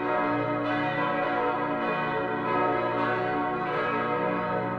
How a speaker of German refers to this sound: Sieben Glocken sind es, die heute im Hauptturm auf zwei Geschosse verteilt untergebracht sind. 1631, also mitten im Dreißigjährigen Krieg, goss der aus Mainz stammende Geschützgießer Johann Reuter drei Glocken.